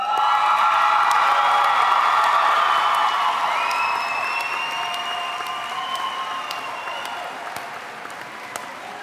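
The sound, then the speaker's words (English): A crowd applauds steadily with cheers and whoops rising over the clapping, loud at first and gradually tapering off over about nine seconds, with a few sharp individual claps near the end, as the newest graduates of Tongue Point Job Corps Center proceed at their graduation ceremony. “Please stand and applaud as the newest graduates of Tongue Point Job Corps Center as they proceed to meet the world.”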